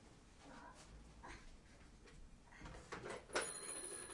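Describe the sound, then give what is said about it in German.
A toy telephone rings in a few short, tinny electronic bursts, fairly quiet against a hissy background, with no one speaking. “Oh, das klingelt ja sogar.”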